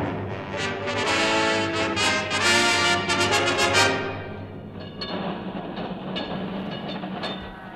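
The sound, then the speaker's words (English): The last tram rumbles past on its rails, loud at first with rhythmic clicking and squealing wheels, then fading into a duller roll as it moves away. “And as I stand here on the great pavement, there goes the last tram.”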